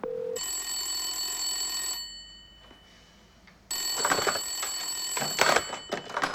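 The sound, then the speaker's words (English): A loud, old-fashioned mechanical bell of a 70s-style telephone, one of a mass of such phones at home, rings in two bursts with a short pause between, the second ring rattling more harshly, with no one speaking. “At home, Franklin's hunched over a mass of 70s-style telephones.”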